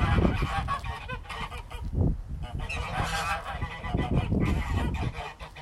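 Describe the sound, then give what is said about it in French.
A noisy flock of ducks quacks almost constantly, calls overlapping in a loud, busy chorus with no pauses and no voices among them. “Les étangs ont de l'eau douce et il y vit des canards, grenouilles, poissons.”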